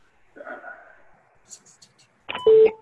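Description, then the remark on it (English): A muffled voice murmurs briefly, then a loud electronic phone beep sounds near the end, a steady mid-pitched tone lasting about half a second. “Somebody was beeping or something.”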